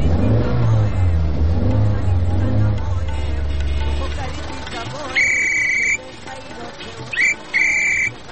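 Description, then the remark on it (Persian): A car engine is started, then rumbles and revs loudly for about four seconds before dying down to a quiet idle. Several shrill, high-pitched electronic beeping tones follow in short bursts. “اینه در این گوشه هم استارت کردیم جانه.”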